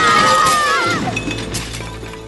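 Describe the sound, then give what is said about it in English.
A loud crash as a ladder topples in a clubhouse and dishes shatter, scattering glitter, followed by ringing clinks and scattered tinkling of broken crockery that gradually fades over about two seconds. “Ladder! Oh, look out! Ladder! Ladder! No!”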